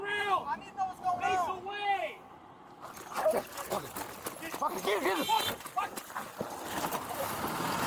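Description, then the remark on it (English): A police dog of the Oklahoma City Police Department, injured after being dragged by a suspect in a stolen truck, lets out several sharp, high-pitched yelps and whines in quick succession, followed by a noisy stretch of overlapping voices and commotion. “We've got a police canine injured after being dragged by a suspect in a stolen truck.”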